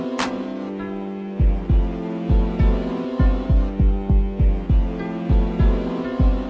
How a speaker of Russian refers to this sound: Сегодня я в холодном поту проснулся среди ночи. Ужас захватил меня, и сердце бьется быстро очень.